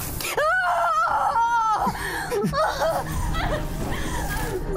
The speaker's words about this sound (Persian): هی، صدای فریاد شنیدم.